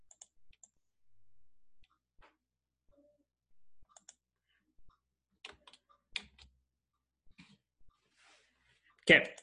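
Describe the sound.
Irregular, quiet tapping on a computer keyboard as a group of students type during a lesson, scattered keystrokes in short bursts with pauses between, ending in a louder clattering burst; a faint voice murmurs briefly in the background.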